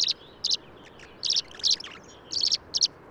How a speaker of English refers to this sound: Some of the birds that I've seen there are song sparrows that are living in my grandmother's backyard. I see them every summer.